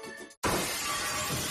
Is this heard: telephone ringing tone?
no